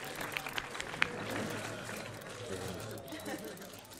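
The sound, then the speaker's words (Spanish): A crowd applauds a tearful, emotional veteran player at his farewell, a steady dense wash of many hands clapping at moderate volume, with a few sharper claps standing out and a murmur of voices mixed underneath. “La gente le aplaude en este momento.”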